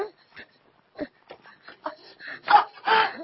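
A person cries in halting, sobbing bursts that start quietly and swell into louder, drawn-out wails toward the end, heard up close.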